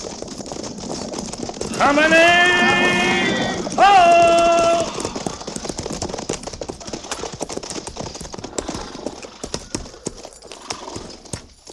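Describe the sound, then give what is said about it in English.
Horses being ridden down to a river, hooves clip-clopping in a steady, continuous rhythm throughout, with two loud, high whinnies rising over the hoofbeats early on before the trotting carries on alone. “Well, let's ride on down to the river.”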